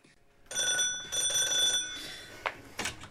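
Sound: doorbell ringing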